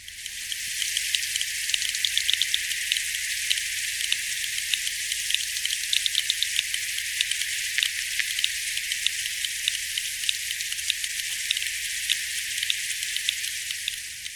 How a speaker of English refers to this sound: Sonar operators in the 1950s described a series of clicks that they called a carpenter fish.